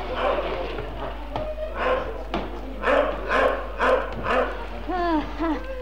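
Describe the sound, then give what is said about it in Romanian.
A dog named Dingo, having sensed some creature nearby, barks in a series of short bursts, ending in a couple of higher whining yelps, over a low steady background hum. “În orice caz, nu-i Negoro, căci ar lătra mai furios.”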